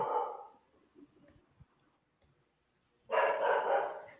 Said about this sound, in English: Sorry sa dog.